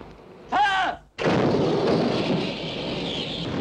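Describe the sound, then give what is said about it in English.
A 4-inch naval gun fires once at a U-boat at a range of 8,000: a sudden, very loud blast that rolls into a long, rumbling decay. Just before it, a short, high shouted call rings out. “I think I can reach him now, sir.”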